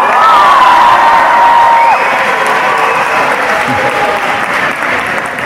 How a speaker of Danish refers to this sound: Alle jer, som ikke vil have badehotel på grenen, I råber. Alle jer, som synes, der skal være et badehotel på grenen, I råber.